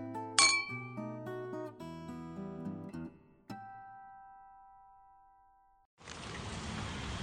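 Glasses clink together in a bright toast, several quick ringing taps, their chime lingering and fading out before a burst of rushing noise takes over at the end.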